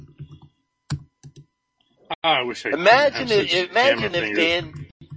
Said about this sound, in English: It is loud, man. This is. You have a mechanical keyboard. That's just his laptop, man. I love the feel of these keys, though.